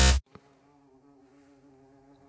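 A bumblebee in a studio hums steadily, a low droning buzz that wavers slightly, following a brief thump at the start and a small click just after.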